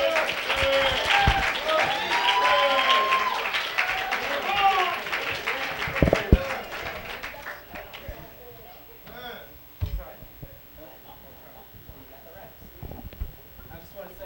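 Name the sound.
audience round of applause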